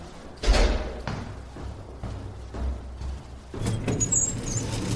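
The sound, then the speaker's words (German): The heavy entrance door of a fairly upscale high-rise a few minutes from the centre of Rotterdam, Netherlands, opens and slams shut with a deep thud as two people go in, followed by muffled thumps and rustling, then a rise of street and traffic noise. “Die Tür unten ist zu, doch irgendwann kommt jemand und die beiden gehen mit hinein.”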